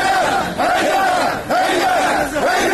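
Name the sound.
protest crowd chanting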